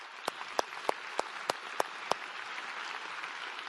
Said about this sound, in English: And when that happens, yeah, y'all can applaud.